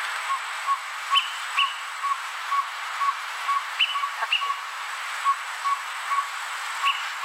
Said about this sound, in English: And I happen to pull up the greater peewee, just so you know, and I this is what the greater peewee sounds like, so everyone can have an idea of what we're trying to talk about here.